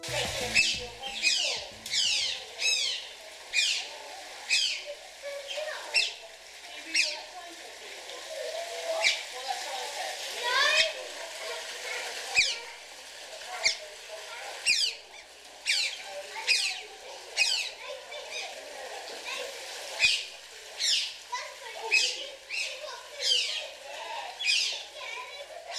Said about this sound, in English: What you just heard was the delightful sound of two otters squeaking playfully together in an unnamed wildlife park.